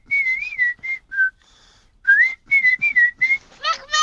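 Two people whistle a duet up close: a steady, clear melody of short phrases with a brief pause midway, ending in quick chirpy rising notes.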